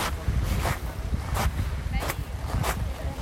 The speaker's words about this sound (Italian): Noi adesso stiamo parlando da Vernazzola, ci troviamo sugli scogli, infatti in sottofondo potremmo sentire il rumore del mare.